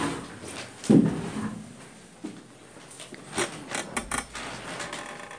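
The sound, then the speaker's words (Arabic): A chair is shifted into place and offered for someone to sit on, with a solid thump and scrape followed by a few lighter creaks and knocks. “هذا كرسي اخوان، تفضل.”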